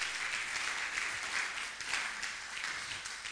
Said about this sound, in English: Can you clap and give praise to Jesus about that?